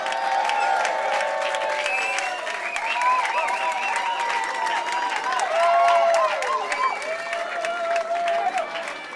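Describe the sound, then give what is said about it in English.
A large crowd claps steadily and loudly for several seconds for saxophonists being introduced at a live performance, with rising whoops and cheering voices riding over the continuous applause. “Please continue your applause for a man who needs no introduction in this town.”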